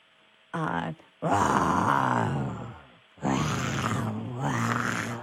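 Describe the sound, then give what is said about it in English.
A person imitates a lion's roar with a few loud, growling vocal bursts, rough and drawn out, with short pauses between them. “A lion.”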